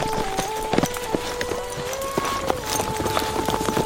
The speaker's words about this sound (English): They stepped the horses down along the steep trail toward the low rolling brush country below.